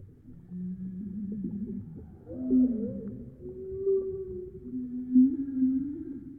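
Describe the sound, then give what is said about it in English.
A blackbird call slowed far down into low, drawn-out moaning glides that sound almost whale-like, over a steady bed of murky water noise, with no voices present. “It's just the call of a humble blackbird, but played back very slowly, and with some water sounds added for effect.”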